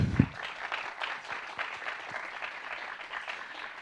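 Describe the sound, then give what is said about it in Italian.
An audience at an event applauds steadily for the guests Francesco Fossetti and Marco Mottura, a dense patter of many hands clapping at an even level for a few seconds, with no voices over it. “Abbiamo Francesco Fossetti e Marco Mottura, applauso.”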